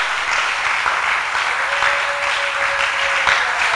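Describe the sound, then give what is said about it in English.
A church audience claps steadily for a few seconds during a sermon, a dense, continuous wash of many hands with no voices standing out, plus a faint sustained tone in the middle. “Oh, I want you to clap. Come on, clap.”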